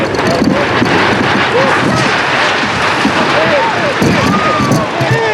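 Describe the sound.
A recording of the earthquake that struck Banija, Croatia, at 12:19 on 29 December: a loud, unbroken rumble roars for several seconds, thick with crashing and rattling, while faint voices and cries rise and fall beneath the din.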